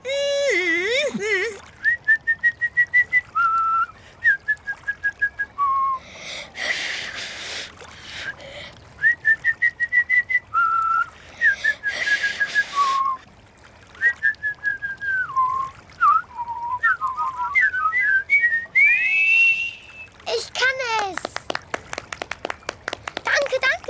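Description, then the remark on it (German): A person whistles a tune in short, wavering melodic phrases, fairly loud, broken up by brief bursts of noisy rustling or clapping, with voice-like sounds at the start. “Bringt ihr mir jetzt das Pfeifen bei?”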